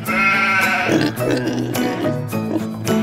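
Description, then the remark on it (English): Domestic sheep bleat in a few wavering, nasal calls over a steady musical backing, the bleats fairly loud and overlapping one another for a few seconds. “Pigs and sheep are domestic.”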